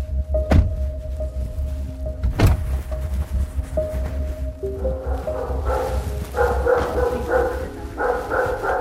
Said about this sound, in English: Boy, that's a big dog.